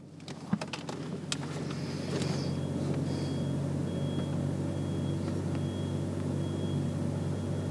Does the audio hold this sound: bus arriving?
yes